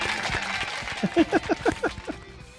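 The audience of the Rich Eisen Show claps in a steady rhythm, about seven or eight evenly spaced beats building over a low crowd murmur, then fades out.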